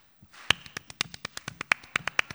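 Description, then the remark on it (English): A steady run of about fifteen sharp hand claps in quick, even rhythm, crisp, clapping alternately on one side and then the other, with slight alternation in tone as the claps switch back and forth. “You clap on this side, you clap on that side. Back and forth.”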